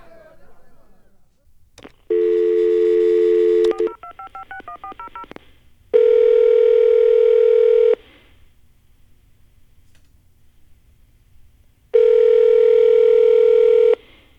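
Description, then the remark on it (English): A steady telephone dial tone gives way to a quick run of keypad dialing beeps, followed by two long tones separated by a pause, loud with no one talking. “I can't come to the phone right now because I'm out chairing the Dubious Goals Committee, a show that airs every single day at 1930 UTC, right here on Anon Radio.”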